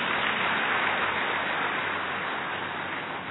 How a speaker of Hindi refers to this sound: अभी अभी ताली बजा दो अपने लिए।